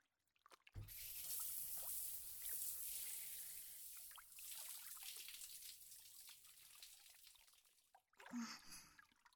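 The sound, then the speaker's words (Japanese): Shower water sprays steadily for several seconds with a bright, hissing rush, then cuts off, leaving a few drips and splashes at the end. No one speaks. “あまり、シャワー中は見つめないでもらえる。”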